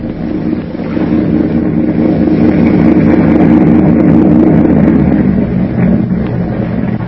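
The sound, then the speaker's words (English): A motorboat engine purrs steadily on New York's East River as it approaches a pier, a low continuous rumbling drone that holds an even loudness for several seconds with no voices. “Suddenly, the thick silence is broken by the low purr of a motorboat engine.”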